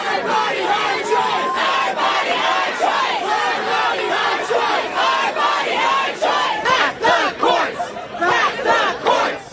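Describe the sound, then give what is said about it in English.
A large crowd of protesters from both sides of the political spectrum outside the US Supreme Court at night, after a reported leak about an upcoming decision, shouts and chants together in a loud, continuous roar of overlapping voices with rising cries and rhythmic surges, no single speaker standing out. “That was the sound from outside the Supreme Court last night.”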